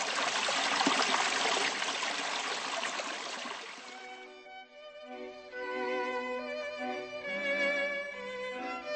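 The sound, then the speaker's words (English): Steady rushing water of the river Kamenica in the Czech Republic fills the first few seconds, loud, then fades as sustained melodic music takes over for the rest. “The river Kamenica used to be full of salmon, but they disappeared due to pollution.”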